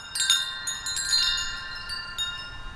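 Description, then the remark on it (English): A musically tuned wind chime, a prototype for a larger chime installation, carried along a stone pathway at North Main Street Park in Eureka Springs, rings with several clear, overlapping high tones that sustain and shimmer, struck again every fraction of a second in an irregular, gentle pattern, with no voices. “walks along a stone pathway with one of his musically tuned wind chimes.”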